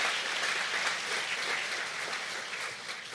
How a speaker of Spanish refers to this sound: Un aplauso al Señor, es bien importante.